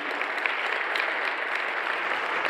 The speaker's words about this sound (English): Just for a second, can we give a hand clap or a love deposit to our search committee? Can we do that this morning?